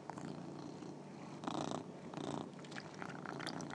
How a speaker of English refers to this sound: Yeah, and he's purring while eating it. So you've got a much happier Simba, and he's wished you a Merry Christmas. He can't quite vocalise Merry Christmas, but he certainly vocalised for you anyway.